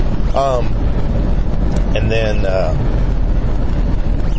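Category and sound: vehicle, truck driving past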